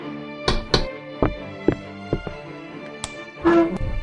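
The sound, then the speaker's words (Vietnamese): Several sharp knocks on a door, irregularly spaced over a few seconds, moderately loud, with a faint steady hum in the background. “Nhưng ngồi chưa thoải mái thì đã có tiếng gõ cửa, nên nó lại phải đứng dậy ra mở.”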